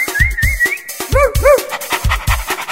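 A dog, being fetched to come along on a fishing trip, whimpers and yelps in short, high, arching whines, with a few sharper bark-like bursts, over a steady rhythmic low thumping beat. The dog sounds fairly loud.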